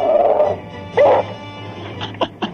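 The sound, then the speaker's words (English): A dog 'sings' with drawn-out, tonal howls, one long and another rising yowl, then a few short yips, sounding thin over a steady low hum, with no one talking. “Was that your singing dog or something? Yeah, it's my singing dog.”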